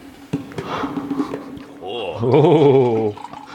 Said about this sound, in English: Pours another drink.